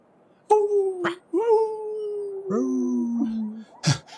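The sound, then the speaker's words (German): Coyotes howl at night outside a town, in the distance, in several overlapping, wavering calls that slide downward in pitch, broken by a couple of short sharp yelps near the end, with no talking. “Die Kojoten sind doch überall. Ich muss schnell nach Hause. Ah, ich kann sie in der Ferne hören.”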